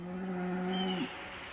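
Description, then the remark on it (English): A single drawn-out moo from Olga, a new cow at a Helvetia cheese house, fairly loud, holding a steady low tone for about a second before sliding down and cutting off. No one speaks. “Now, I notice you have Olga out here, your new cow.”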